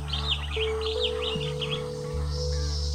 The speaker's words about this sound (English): Imagine you are in the jungle. Listen to all those strange noises. There are birds